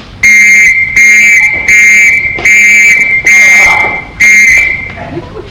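A shrill whistle is blown as a gas attack alarm in six loud blasts, each lasting about half a second, repeated at a steady, urgent pace.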